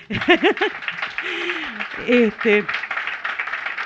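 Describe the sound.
An audience applauds steadily for a few seconds for the work of making a book by placing its words one by one, a dense patter of clapping with several voices calling out and cheering over it.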